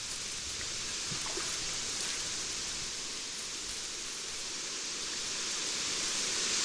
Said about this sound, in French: Par exemple, sur le Nil, il y a un peu de vent comme ça qui souffle et tu es dans un champ de roseaux.